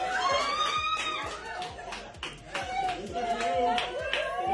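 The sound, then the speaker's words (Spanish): A crowd of family members claps in a steady, rhythmic beat while many voices cheer and shout over it, welcoming three young Israeli women just released, loud and continuous for the whole stretch. “Los familiares reaccionaban así para dar la bienvenida a las jóvenes. Entre aplausos, alegría y lágrimas terminaba su angustia.”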